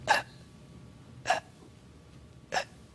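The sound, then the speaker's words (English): A voice imitates gasping for air: three short, sharp, breathy inhales, evenly spaced a little over a second apart, each one abrupt and strained, with quiet pauses between and no talking. “You have to fight and gasp for even the tiniest bit of air. And this is how you breathe in hell.”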